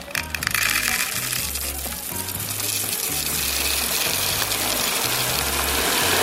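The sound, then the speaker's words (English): A steady, dense rattling hiss of roasted, salted sunflower seeds being poured out in a continuous stream, to be ground with coconut oil and honey, staying fairly loud throughout, with a low melodic line underneath. “So I'm going to pour the roasted, salted sunflower seeds.”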